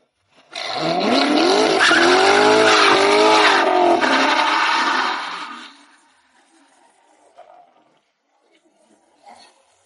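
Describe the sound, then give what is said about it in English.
A 2014 C7 Corvette's manual, naturally aspirated V8 engine roars hard under heavy acceleration while tires squeal, loud for about five seconds, then the noise cuts away into near quiet. “Okay, yeah, that's not a slow car at all. This is a 2014 C7 Corvette.”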